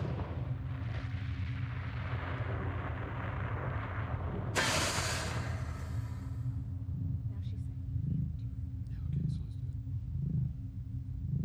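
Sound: explosion sound effect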